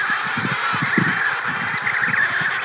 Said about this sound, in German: Niemand sagt ein Wort. Nur die Pinguine kreischen.